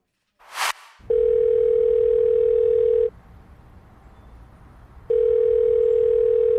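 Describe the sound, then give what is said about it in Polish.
A short burst of noise, then a steady low-pitched telephone dial tone hums for about two seconds, stops for two seconds, and starts again. No one speaks. “Zaraz zadzwonimy do Majki.”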